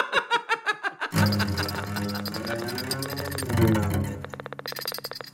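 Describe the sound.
A man's voice imitates a frog croaking: a quick burst of rhythmic, pulsing croaks, then a long drawn-out guttural croak, ending in another rapid stutter of croaks, fairly loud.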